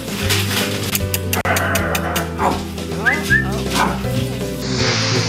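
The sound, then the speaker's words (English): A puppy in a video barks and whimpers in short, high yips and whines, with voices and a busy background running underneath throughout the few seconds. “We need to put more puppies up there. Show my buddy.”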